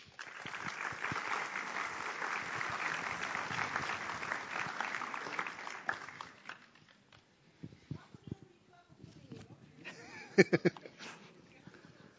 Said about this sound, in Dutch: als je klappen wil, moet je klappen voor de Heer.